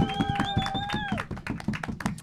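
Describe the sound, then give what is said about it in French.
An audience applauds the show's technician with a steady, dense patter of many hands clapping, while a high whistle rises over it for the first second before gliding down and fading. “Que vous pouvez applaudir, s'il vous plaît.”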